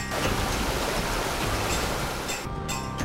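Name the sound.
flowing mountain stream water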